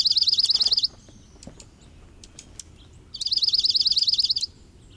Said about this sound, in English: giving a sharp twittering call, it flashes the white outer feathers of its tail. Enjoy these dark-eyed juncos now and through the winter. Come spring, most of these snowbirds will head north or into higher elevations to begin a new breeding cycle.